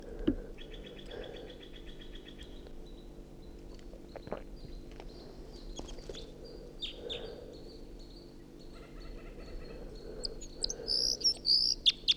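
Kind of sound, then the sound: bird, wild bird singing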